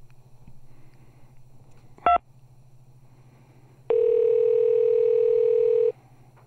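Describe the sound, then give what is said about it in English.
Over a low steady hum, a short two-tone keypad beep sounds in an automated phone menu while calling a restaurant, then after a pause a loud, sustained single-pitch phone tone holds for about two seconds before cutting off. No one speaks. “It's a gauntlet of recordings just to get someone on the phone.”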